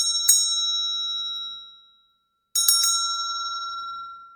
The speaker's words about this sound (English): I'm going to ring the bell. They've asked me to ring the bell with this, so here we go.